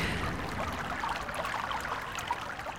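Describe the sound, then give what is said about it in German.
Water trickles and babbles steadily, a continuous gentle burble with small splashes, moderately quiet and with no voices, heard from in front of a wooden hut looking out over the water in the late-summer sun in August. “Ich sitze bei meiner Nachbarin Claudia vor der Holzhütte und blicke auf das Wasser”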